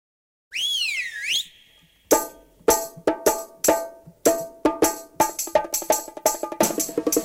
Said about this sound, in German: Wenn es am Freitagnachmittag um diese Zeit hier bei uns auf Bayern 2 pfeift, dann heißt es, dass unsere jüdische Viertelstunde ins Finale geht